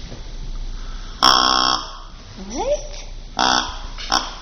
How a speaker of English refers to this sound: Who wants to hear what a deer sounds like? Yeah. Okay. So this is going to sound like a juvenile, a young deer.